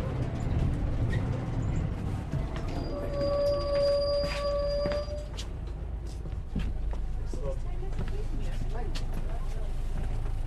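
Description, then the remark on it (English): Inside a city bus in Galway as passengers get off at Spanish Arch, a steady low engine rumble fills the whole stretch, a sustained electronic tone rings for a couple of seconds early on, and muffled voices murmur in the background. “Should we get off the bus here, shall we?”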